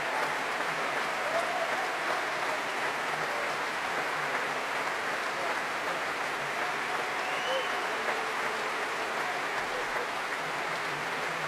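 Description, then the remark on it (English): Sustained applause from a large Proms concert audience after a performance by the BBC Symphony Orchestra, led by Daniel Rowland and conducted by Osmo Vanska, as singer Ruby Hughes returns to the stage; a dense, even crackle of many hands clapping at a moderate level, with a faint voice speaking over it. “Ruby Hughes enjoying every minute of this, blowing kisses to the audience and now warmly applauding the players of the BBC Symphony Orchestra, led tonight by Daniel Rowland and conducted by Osmo Vanska.”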